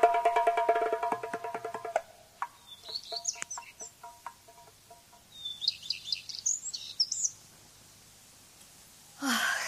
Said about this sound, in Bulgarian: Прекрасна е, прекрасна е песента ти, мила птичко, но тя не ще успее да прогони тъгата ми.